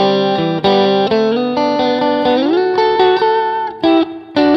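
An electric guitar plays a solo, picking out a run of distinct single notes from the chord tones of a G chord and a C chord, sustained and bright with a distorted, effects-laden tone, sliding up in pitch midway before a couple of brief pauses near the end.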